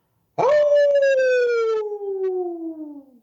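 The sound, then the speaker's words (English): A man imitates a hound dog's howl: one long, loud howl lasting about three seconds, opening with a sharp rise and then slowly sliding down in pitch as it fades out. “I don't even know if that's a hound dog or a coyote or a wolf or what.”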